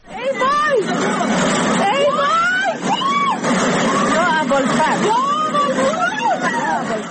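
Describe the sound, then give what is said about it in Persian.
Several panicked voices of residents in a house in the Sayyedi neighbourhood of Mashhad, Khorasan Razavi province, cry out and shout over one another as they watch from a window while a flash flood after heavy rain sweeps cars away, above a steady roaring rush of floodwater that runs continuously underneath. “صدای وحشت ساکنان خانه‌ای در محله سیدی مشهد که از پنجره ماشین‌هایی را که سیل می‌برد تماشا می‌کنند.”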